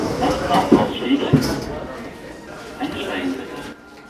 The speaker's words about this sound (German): Und das heißt für mich, wieder rein in die U-Bahn.